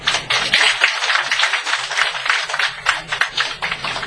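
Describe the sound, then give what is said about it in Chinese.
Steady audience applause thanking a speaker after a talk fills the whole stretch, a dense crackle of many hands clapping at once with loudness rising and falling slightly, and no voices heard over it. “再次掌声感谢。”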